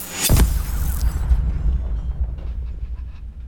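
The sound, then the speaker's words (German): A dog pants in quick, rhythmic breaths, faint and partly buried under a heavy low rumble that follows a sharp burst of noise at the start. “Oh nein, da ist wieder der verdammte Köter.”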